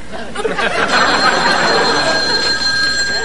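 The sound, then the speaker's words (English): A telephone rings steadily with a bright, sustained electronic tone, loud, over a busy background of murmuring voices and clatter at a family dinner table at home. “Mama, may I please leave the table to answer the phone?”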